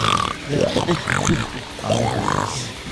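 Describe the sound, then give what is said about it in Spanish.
A voice imitates pig grunts in a run of rough, guttural snorts and squeals, fairly loud, broken into two bursts with a short pause between them. “A veces gruñidos de cerdo.”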